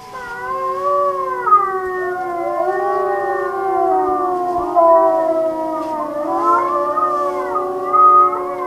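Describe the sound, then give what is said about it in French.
A chorus of wolves howls together, several long, wavering voices overlapping and sliding up and down in pitch, sustained and fairly loud throughout with no talking. “On dit les loups, ils hurlent.”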